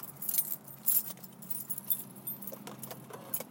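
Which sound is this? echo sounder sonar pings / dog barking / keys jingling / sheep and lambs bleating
keys jingling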